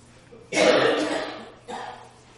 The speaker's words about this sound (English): All right. All this coughing through the room, I feel like I need a drum screen out in front of me here. It's that season, isn't it? Warm, cold, warm, cold.